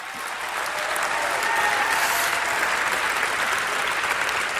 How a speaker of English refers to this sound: Come on, somebody. If you're going to clap for Jesus, clap for reals.